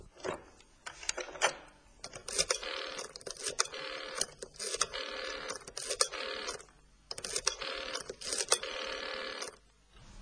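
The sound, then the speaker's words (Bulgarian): A telephone number being dialed to call Marlo, with bursts of rapid mechanical clicking separated by short pauses, repeating for several digits with no voices. “Беше време да се обадя на самия Марло.”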